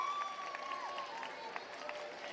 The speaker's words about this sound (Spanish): Fuerte el aplauso, vamos a repetir ese fuerte aplauso para esta actuación que acabamos de ver tan maravillosa.